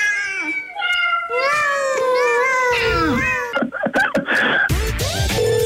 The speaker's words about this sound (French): Qu'est-ce que c'est, là, là? C'est des chats, voyons. Ah, oui. Bon, ben, c'est beau, les chats